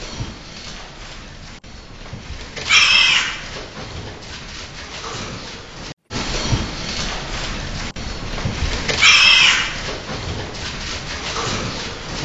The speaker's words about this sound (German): Und das tut dem anderen Schwein wahnsinnig weh und dann machen die einen tierischen Schmerzensschrei. Auch der ist im Film zu hören. Wir hören ihn mal an.